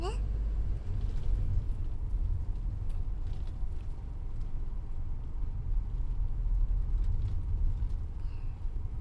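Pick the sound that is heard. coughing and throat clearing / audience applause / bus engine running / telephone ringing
bus engine running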